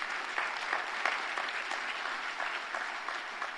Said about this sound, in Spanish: Den un aplauso a Dios que se lo merece.